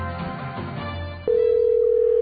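A steady, loud telephone tone comes in partway through and holds without a break, after a stretch of muffled, noisy line rumble, as a call placed to a Domino's Pizza waits for pickup. There is no talking.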